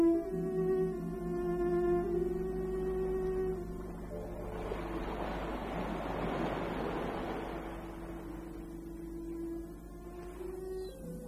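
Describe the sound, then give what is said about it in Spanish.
A sea wave swells into a loud, rushing wash and then slowly recedes, heard beneath steady, sustained musical tones with no voices. “El mar y el cielo. No se ve otra cosa desde los grandes ventanales que dan a la terraza.”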